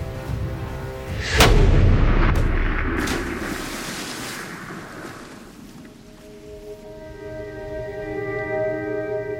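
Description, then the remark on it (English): A single loud rifle shot, fired at a moose standing 3 feet deep in water 30 yards out in a slough as it starts to get dark, cracks out, followed by a long rumbling boom that slowly fades. Afterward, faint steady low tones hum in the background, and no one speaks. “I'd really rather not shoot him right now, but it's starting to get dark.”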